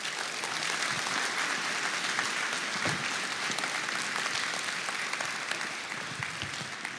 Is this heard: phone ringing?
no